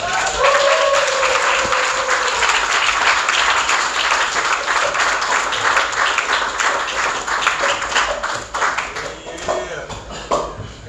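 An audience at a meeting applauds a speaker steadily, a dense wash of many hands clapping at an even loudness that thins and tapers off toward the end.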